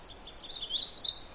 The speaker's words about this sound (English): There are several sounds here, but one of them is an indigo bunting, and I didn't expect to see it here. I don't know why, because indigo buntings are, they're not common, but they are around in the county.